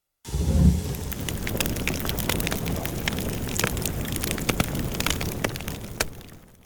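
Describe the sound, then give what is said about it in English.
A fire, just lit in a fireplace in a large room, crackles steadily, sharp pops and snaps scattered over a low, continuous roar of flames, fairly loud, with no voices. “Felicia lights a fire in the fireplace.”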